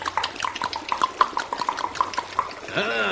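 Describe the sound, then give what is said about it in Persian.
Several storks calling with fast, rattling clatters in quick bursts, followed by a brief higher, wavering cry at the end. “بچه ها طولی نکشید که صدای چند تا لک لک به گوششون خورد.”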